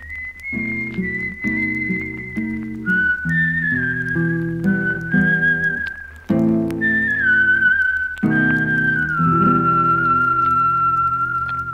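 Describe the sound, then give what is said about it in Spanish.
A man, an uncle, softly whistling a steady melody while walking away, with gentle slides between notes, carried over a soft instrumental accompaniment of sustained chords. It stays at an even volume throughout, with no talking. “Y mientras papá y yo quedábamos allí, pensando, el tío Juan se fue caminando, silbando bajito.”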